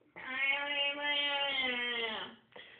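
A cat lets out one long, drawn-out meow, loud and steady for about two seconds before tapering, then a brief short chirp right after.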